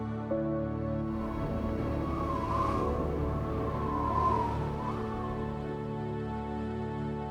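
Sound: wind blowing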